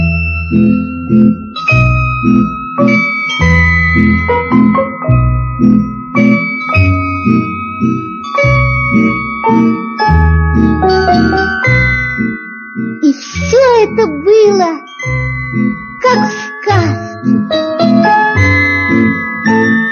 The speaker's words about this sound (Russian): И было слышно, как тонко звенят золотые колокольчики на девочкиных длинных руках.